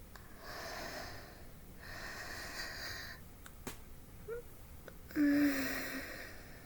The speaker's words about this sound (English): And listen to me breathe.